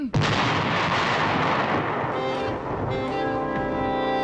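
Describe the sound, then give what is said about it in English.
A loud burst of gunfire from the American rebel troops facing Lord Cornwallis erupts suddenly. It rolls on as a sustained, dense barrage of shots and booms, with no voices. “No, before that. Gunfire.”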